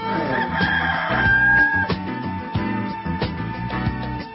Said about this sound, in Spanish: Tranquilo, gallo, tranquilo.